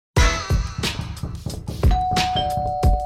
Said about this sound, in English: Another ring of the doorbell. Let's see who's here.